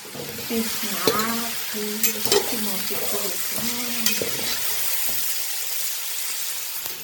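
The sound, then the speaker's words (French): Pork pieces for a Malagasy dish sizzle steadily as they brown in a hot pan, a constant crackling hiss broken by scraping stirs and a few clinks of a utensil against the metal. “Elle va roussir le porc, rajouter les épices et laisser tout ce beau monde prendre une belle couleur.”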